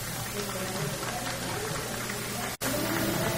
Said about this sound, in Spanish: En este momento se lleva a cabo la fotografía oficial. Fuerte el aplauso, por favor, para este momento.